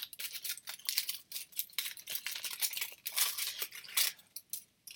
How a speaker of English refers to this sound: Well, to find the message, first off, we need to take off the bright, colourful paper.